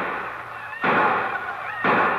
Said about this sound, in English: The sounds awakened me the morning Yancey left. The excited shots and yells of the few other men of Osage, who also had decided to make the Cherokee run.